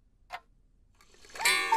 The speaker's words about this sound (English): Tick, tick, tick, tick. Not long now.